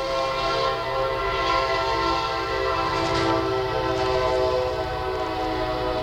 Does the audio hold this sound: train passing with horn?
yes